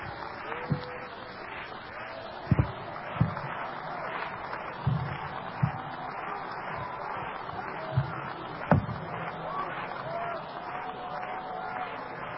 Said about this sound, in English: Clap your hands again. Come on now.